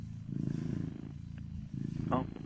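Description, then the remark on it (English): A low, rumbling cat purr pulses steadily throughout, soft, with a brief higher chirp-like sound breaking in near the end. “Can we hear the cat purrs?”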